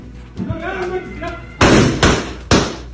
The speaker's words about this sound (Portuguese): Olha os tiros, olha os disparos